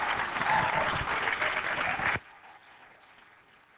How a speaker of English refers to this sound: You give him a warm hand as he comes and shares